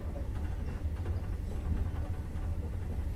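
A steady, low rumbling drone of a moving train, heard continuously, with a faint rattling texture above the deep hum and no voices.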